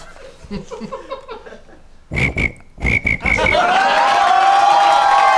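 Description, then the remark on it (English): Mark Wahlberg imitates a cricket with his mouth, first a few rapid, pulsed chirps, then a long, shrill, steady trill. The voice is loud, with no talking. “All right, give it a try. Do a cricket noise.”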